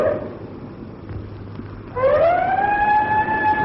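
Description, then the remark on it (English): A ship's siren, sounded by the ship's skipper as a signal, gives one long, loud blast that swoops upward in pitch and then holds a steady wail over a low background rumble. No one speaks. “It's the skipper signaling. I can see him at the siren call.”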